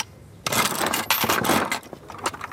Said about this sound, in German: Ein knallroter Kasten mit Münzeinwurf, Drehgriff und Ausgabefach. Der Mundartomat sieht aus wie ein Kaugummiautomat und klingt auch genauso.